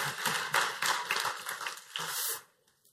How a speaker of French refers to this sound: Ah, et yes, oui, on l'applaudit, oui.